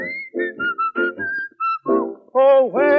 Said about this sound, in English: Come on, let's all whistle for the dog. See if we can find him. Come on, go on, look for him. Come on, whistle. Where's that dog at?